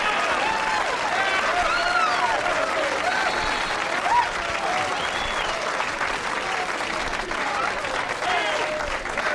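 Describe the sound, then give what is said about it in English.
Steady, loud audience applause for comedian Henny Youngman fills the whole stretch, a dense wash of many hands clapping at once, with scattered whoops and cheers rising above it and no pause. “What a crowd!”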